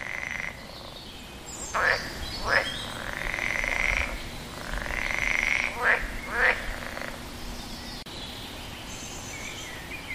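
Frogs croak by a pond: a steady chorus of raspy, trilling calls with several louder, sharper croaks standing out in pairs. No one speaks.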